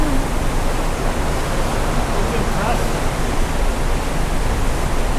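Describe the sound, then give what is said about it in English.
A steady, dense roar of water being moved, rushing like a waterfall, fills the whole clip at an even, fairly loud level without pauses or changes. “What does it sound like? A waterfall.”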